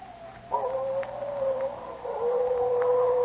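coyotes howling at night

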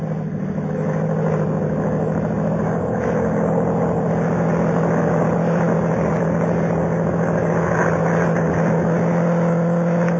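propeller monoplane climbing overhead

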